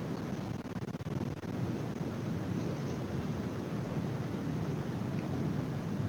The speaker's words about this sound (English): It might be a washing machine. There's a difference to ours, though, isn't there? They're top loaders.